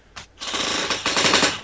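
A rough, crackling creak with rapid ratchet-like pulses. A short burst comes first, then a longer, louder stretch grinds on steadily to the end, with no voices.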